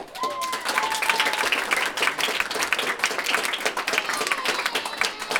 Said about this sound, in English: Board members ultimately voted 7-2 in favor of letting Aurora Borealis add 9th and 10th grades. The vote was met with cheers and applause from the audience.